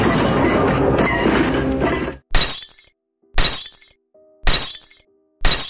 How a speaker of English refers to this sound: About 2 weeks after that first incident, we were all again sleeping when suddenly there was a very loud crash and the sound of tinkling glass from the hallway.